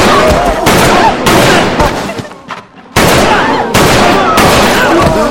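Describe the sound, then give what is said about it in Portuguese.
Loud gunfire in several abrupt, sustained bursts, with a short quieter lull midway before the shooting resumes; voices can be heard mixed in beneath the shots as a woman is shot in the head. “Ela leva um tiro na cabeça.”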